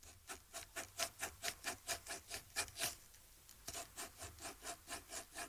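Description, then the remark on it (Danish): A pencil scratches rhythmically across paper held close to the mic, drawing out the rhythm of a children's song: about twenty short, even rasping strokes in a steady pattern, with no voices. “Peger mikrofonen ned mod det papir her, så kan man tegne, en sang ved at rytmisk tegne en.”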